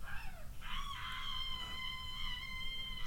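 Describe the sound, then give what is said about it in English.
A legendary Pokémon from Sun and Moon, based on a chicken, lets out a loud, harsh screeching shriek, a buzzy high cry with stacked overtones that rises and then holds steady for a few seconds before cutting off. “Well, he is based off a chicken, but he's just like this loud screeching, shrieking thing, and you're like, that's not at all how you imagine.”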